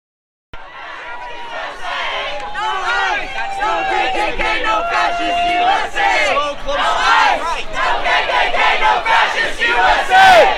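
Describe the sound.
A large protest crowd chants "Our streets!" and shouts in the streets of downtown Eureka, many voices overlapping in a loud, dense roar that starts abruptly and grows more intense toward the end.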